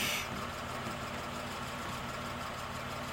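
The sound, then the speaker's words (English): A car engine runs at a low, steady idle as the car turns into the driveway of a house on an island, its deep rumble holding even for a few seconds after a brief hiss at the start, with no one talking. “The headlight of a car coming this way.”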